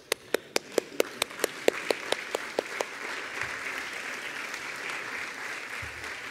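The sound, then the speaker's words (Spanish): An audience breaks into applause, starting with a dozen sharp, steady claps in unison that soon melt into a dense, even wash of crowd clapping, moderately loud throughout. “Hay pasajes que no podríamos dejar de aplaudirlo.”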